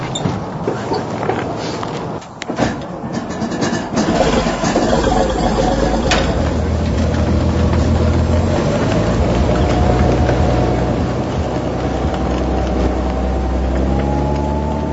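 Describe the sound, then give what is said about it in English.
A Hetzer tank destroyer, built in Czechoslovakia on a Skoda 38T chassis, runs its original engine loud, a steady deep rumble with a rough mechanical clatter, its pitch creeping upward toward the end as the revs rise. No one speaks. “It's got an original engine in it.”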